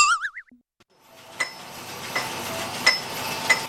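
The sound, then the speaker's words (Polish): A homemade woodworking sander built on an original washing-machine base is switched on by a woman and runs with a steady, broad whirring hiss, marked by sharp metallic clinks about every second. A brief wobbling boing-like tone comes just before it starts. “To akurat to co pani włączyła, to jest akurat szlifierka do obróbki drewna.”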